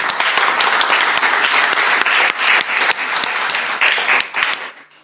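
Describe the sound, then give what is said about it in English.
A crowd applauds steadily for everyone who shared, a dense, loud patter of many hands clapping together that holds for several seconds before tapering off at the end. “Another round of applause for everyone that's shared.”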